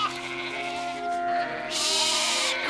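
Sheep bleat loudly, their long, wavering cries overlapping in a continuous agitated chorus with no speech.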